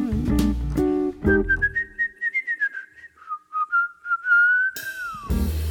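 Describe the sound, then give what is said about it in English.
A person whistles a short, bright little tune, quick bouncy notes that settle into a longer gliding phrase, framed by brief bursts of instrumental music before and after. “I don't think you're handsome, 'cause if I really did, I'd whistle a little tune.”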